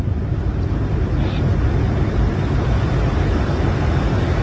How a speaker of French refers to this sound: Ah, le pilote vient d'allumer la post-combustion. Mach 1, ça y est, nous venons de passer la vitesse du son.